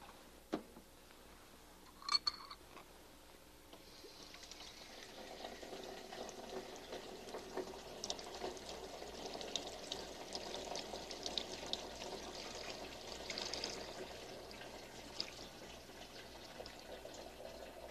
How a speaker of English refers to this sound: Okay, that's enough cold water in the big tumbler. Now I'm going to get hot water in the little one.